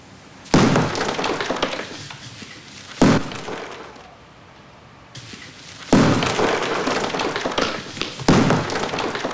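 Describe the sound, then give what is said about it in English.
A woman in protective glasses swings a sledgehammer to knock down a wall inside a house, striking four times, each a loud crashing thud followed by a rattle of falling debris and crumbling plaster, with brief lulls between blows. “Picks up a sledgehammer and starts knocking down a wall.”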